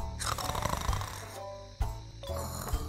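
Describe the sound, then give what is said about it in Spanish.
In a children's show, an anteater character pretends to be asleep and imitates snoring. The rough, buzzing snore-like breaths have a low rumbling tone and repeat about three times with brief pauses. Fairly loud and without speech. “¿Alguna vez vieron un oso hormiguero durmiendo?”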